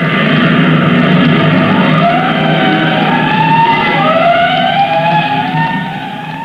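A fire engine siren wails loudly and continuously, its overlapping tones sliding up and down, with a clanging bell mixed into the din; no voices, and it eases slightly at the end.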